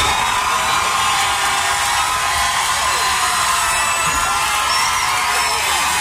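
A loud, sustained roar of crowd noise fills the whole stretch, a dense wash of cheering and whooping as a crowd reaction in a contest, with scattered shouts rising through it, steady throughout.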